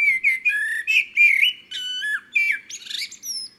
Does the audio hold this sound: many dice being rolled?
no